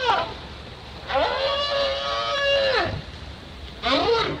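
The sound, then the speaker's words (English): Recorded whale calls played underwater from a CD player through a speaker the size of a car engine lowered over the side of a boat: a short rising cry, then a long, loud, harmonic moan that bends downward at its end, followed by another upswept call after a brief pause. “Susan pushed play on her CD player.”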